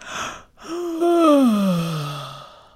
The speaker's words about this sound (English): Now, to lower your larynx, keep your fingers on your larynx and yawn.